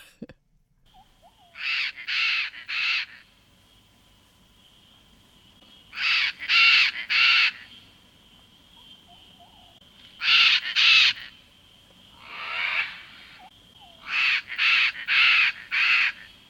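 A chestnut-fronted macaw gives loud, harsh, raspy squawks in quick bunches of two to four, with short pauses between the bursts and no talking.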